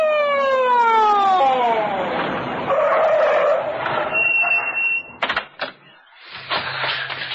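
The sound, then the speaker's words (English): An emergency medical ambulance siren wails loudly, its pitch sweeping downward over the first couple of seconds before giving way to clattering, scraping noises and brief bursts of sound. “I have called for the emergency medical ambulance.”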